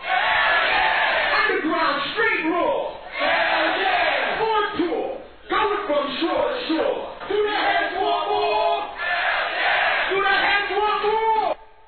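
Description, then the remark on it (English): A crowd shouts back in loud, sustained bursts in response to a performer's call "Do we keep it hardcore?", many voices yelling together with brief dips between chants, the roar staying dense and energetic throughout. “Get some crowd participation.”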